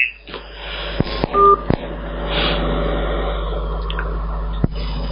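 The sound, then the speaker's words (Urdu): Telephone line noise with a few sharp clicks and a brief electronic tone, like a keypad or line beep, over a steady low hiss after the call cuts off. No one speaks. “لہذا وہ خود کال ہی کٹ گئی ہے.”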